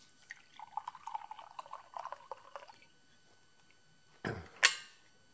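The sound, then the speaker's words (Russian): Hot water pours in a thin, burbling trickle for a few seconds and stops. After a short pause come two quick, louder sounds, like a sip and a cup set down. “И также я пью горячую воду.”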